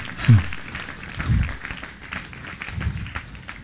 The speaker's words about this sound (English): Glory be to God. Hallelujah. Now give him another clap offering.